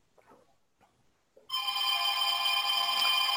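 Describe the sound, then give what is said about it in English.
After a brief hush with a few faint soft sounds, a telephone starts ringing loudly, a bright, continuous metallic bell tone that carries on to the end. “And listen to the phone ring.”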